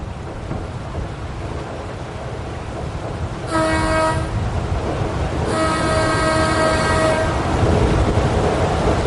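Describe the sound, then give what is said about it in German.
The propeller of the electric passenger motor ship Heimat churns water in a steady, dense low rumble on its first scheduled run with an electric motor, the first electric passenger ship in German-speaking Switzerland. Two loud, harmonic horn-like blasts interrupt, the second longer than the first; no one speaks. “Ja, den Schiffspropeller mit dem Wasser hört man natürlich.”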